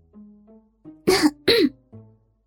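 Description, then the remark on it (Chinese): A loud cough in two sharp bursts a moment apart from a passenger in the front seat of a car, with faint murmuring vocal sounds just before and after. “我咳嗽了一声，指了指前面，再看警察就要过来了。”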